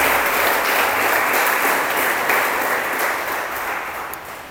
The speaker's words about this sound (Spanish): Denle el aplauso si se lo va a dar al Señor, por favor.